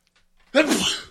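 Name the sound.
sneeze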